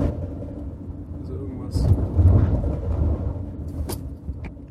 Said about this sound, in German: Das Auto ist, glaube ich, zu laut für so eine Scheiße.